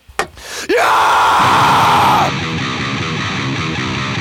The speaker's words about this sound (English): Give me a scream